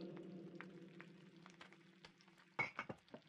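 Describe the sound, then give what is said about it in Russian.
Steady sizzling of food frying in a pan, with a spatula scraping and stirring; a louder burst of scraping and clattering near the end. “Да ты помешай в сковороде скорей.”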